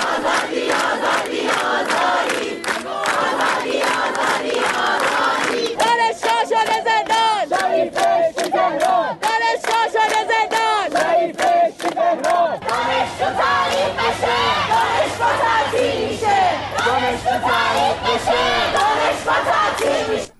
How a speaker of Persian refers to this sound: در برخی دانشگاه‌ها از جمله در دانشگاه علامه راهپیمایی اعتراضی و سر دادن شعارها از بامداد سه‌شنبه آغاز شده. دانشجوها تو زندان شریف بهشتی تهران از جمله شعارهایی است که از دانشجویان دانشگاه علامه شنیده می‌شود.